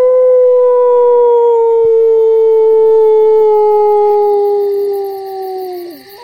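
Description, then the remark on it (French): A single long, loud wolf-like howl imitated by a human voice, holding a steady tone that slowly sinks in pitch for about six seconds before breaking off at the end. “Ça ressemble à quoi, un loup qui hurle? Eh bien, ça ressemble à ça, là.”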